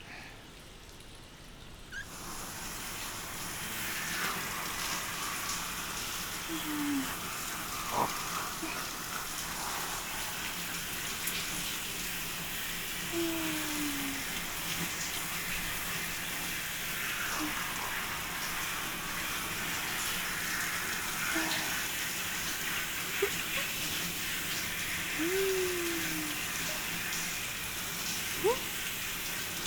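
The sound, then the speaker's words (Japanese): Steady shower spray hisses continuously for the whole stretch, an even wash of water with occasional faint splashes and drips breaking through, as a shower rinses everything off at the end of a wash in the washing area of a hot spring bath. No one speaks. “ではでは、最後にシャワーで全体を流していきましょう。”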